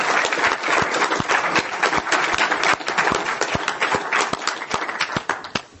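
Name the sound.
audience applause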